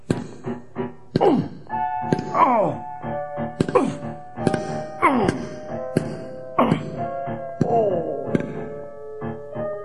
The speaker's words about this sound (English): Johan smashed at the wall until there was a big opening between the two stores.